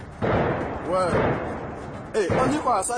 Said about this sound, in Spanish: El último ataque se ha dirigido contra un hotel de Burkina Faso. Según la información oficial, 26 personas han muerto. Son de 18 nacionalidades diferentes. El sonido de las balas y de los explosivos se ha prolongado hasta el mediodía.